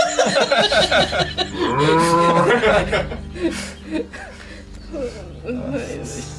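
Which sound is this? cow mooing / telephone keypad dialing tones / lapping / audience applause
cow mooing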